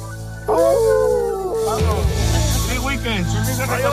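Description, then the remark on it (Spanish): A person imitates a wolf, letting out long, wavering howls that rise and fall in pitch, loud, over a low steady rumble for several seconds. “Aulla tú. Aulla, como si fueras un lobo.”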